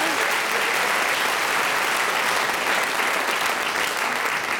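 The audience of a show claps steadily for a guest for several seconds, a dense, even wash of hands with no pauses and no one speaking over it.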